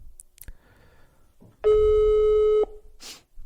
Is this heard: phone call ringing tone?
yes